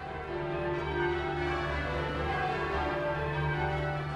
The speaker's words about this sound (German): Wenn der Spieler am Seil zieht, dann gibt es ja eine Verzögerung, bis der Ton aus der Glocke rauskommt. Und der ist auch je nach Grösse der Glocke nochmal anders. Aber nach ein paar Kerlen sind sie schon genau im Takt.